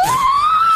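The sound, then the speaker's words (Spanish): A person imitates a tortoiseshell Persian cat's meow: one drawn-out, rising mew, fairly loud, with no other talking. “Gato persa carey.”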